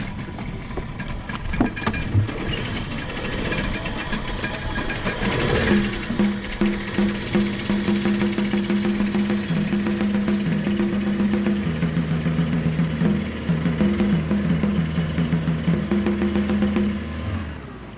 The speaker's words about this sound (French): Voilà, on démarre le moteur ? On peut démarrer.